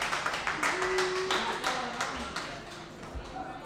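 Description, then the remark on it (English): A small audience claps steadily and fairly loudly for a few seconds, the scattered hand claps overlapping into brisk applause with a faint murmur of voices underneath. “You're definitely the smallest but loudest clapping clouds.”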